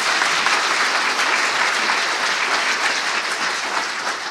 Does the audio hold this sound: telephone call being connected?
no